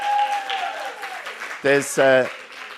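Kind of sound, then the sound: crowd, audience clapping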